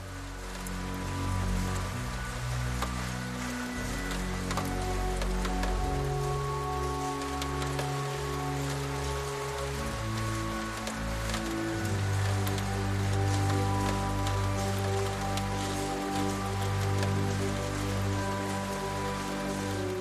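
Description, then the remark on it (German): Steady, gentle rain falls outside onto a cobblestone street, forming small puddles, with a continuous soft, even hiss and scattered droplet patter, layered over a low sustained musical drone. No voices are present. “Du lässt deinen Kopf leicht zur Seite fallen und blickst wieder hinaus in den Regen, der nun zu einem gleichmäßigen, sanften Rauschen geworden ist.”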